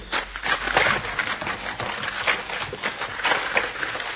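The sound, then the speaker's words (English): Horse hooves clatter in a quick, uneven gallop as a horse runs away after its rider fell, a steady stream of hard thuds and clops that stays fairly loud throughout, with no voices. “Looks like my horse ran away.”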